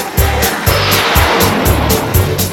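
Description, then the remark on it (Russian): A car engine roars loudly as the vehicle pulls away, its throaty rumble pulsing in quick, regular surges with a harsh hiss above it. Nobody speaks. “А машина зверь, слушай.”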